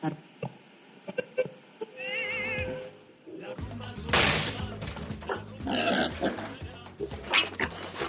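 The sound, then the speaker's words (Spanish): A pig named Manolito, raised in the fields of Extremadura, grunts and snorts repeatedly, growing louder and busier in the second half, with rustling noises around it after a quieter, murmuring start. “Él es un cerdo criado en los campos de Extremadura.”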